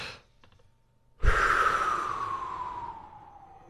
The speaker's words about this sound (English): But let's take a big deep breath, shall we?